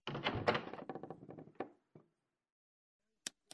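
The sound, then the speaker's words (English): A hotel room door rattles and thumps open with a cluster of knocks and clatters that taper off. Quiet follows, then two sharp clicks as the light switch is turned on. “I opened the door and turned on the light.”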